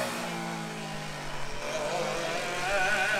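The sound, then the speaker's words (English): Unlimited All-Stars race car engines roar on a track at a steady, loud pitch, rising slightly as the second-place car nears and passes, with a broad wash of mechanical noise and no clear talking. “And here comes your second place car.”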